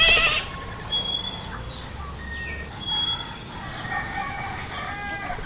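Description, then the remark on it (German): A dawn chorus of many birds at sunrise in South America, overlapping whistles, trills and calls layered over a dense, steady background of forest sound, with no one speaking. “wo gerade Dawn Chorus ist, also wo gerade die Sonne aufgeht und die Vögel zwitschern.”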